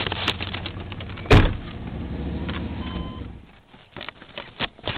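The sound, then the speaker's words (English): A truck door opens with a sharp, loud clunk over a steady engine rumble. The hum then drops away, leaving quieter shuffling and a few soft knocks as someone climbs out of the truck to look for a cemetery shown on the map. “Let's get out of the truck and look.”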